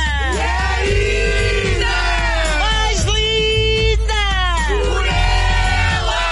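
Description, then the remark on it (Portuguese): A large crowd yells together in a loud, sustained group cry, many voices rising and falling in long swelling waves that fill the whole stretch without a break. “Mas só para vocês sentirem o poder desta malta de Carnido ou Noronha, vamos começar já com o grande grito.”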